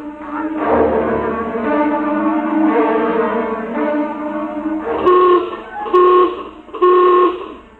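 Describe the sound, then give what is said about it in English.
A general alarm horn blares, calling to emergency stations at condition red, a sustained, buzzy harmonic drone that then breaks into three loud, evenly spaced blasts of the same harsh tone. “Now hear this. General alarm. General alarm. Emergency stations.”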